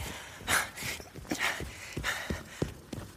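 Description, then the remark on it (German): Several dogs bark in quick, uneven bursts, mixed with softer whining whimpers, moderately loud, with no talking over them. “Ja, ihr Hunde!”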